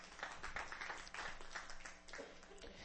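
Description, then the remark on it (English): A church audience claps together as a clap offering to the Lord, a steady, dense patter of many hands, fairly soft overall, with a faint murmur of voices mixed underneath. “Come on, somebody give the Lord a clap offering in this house.”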